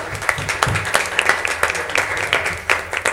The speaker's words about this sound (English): amen, amen. Let's go ahead and give the Lord a hand clap of praise.